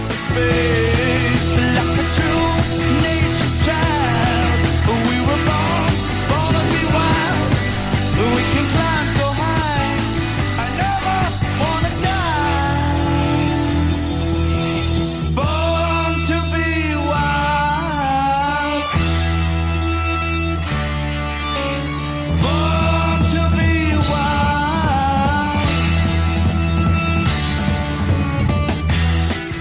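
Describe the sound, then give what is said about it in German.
A song plays loud and dense throughout, with distorted guitars, pounding drums and a soaring lead vocal, the full band driving steadily for the whole stretch with only brief dips. “Das ist natürlich unfassbar guter Song.”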